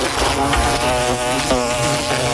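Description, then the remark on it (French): A loud, steady insect buzz drones continuously, with a rich, rasping hum that wavers slightly in pitch without pausing. No one speaks. “L'été arrive et les nuisibles aussi. Guêpes, frelons, rongeurs, punaises de lit, cafards.”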